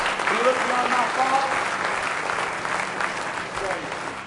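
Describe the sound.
An audience at a worship service claps together in praise, a dense, sustained round of applause, steady and fairly loud throughout, with faint voices and cheers mixed in underneath.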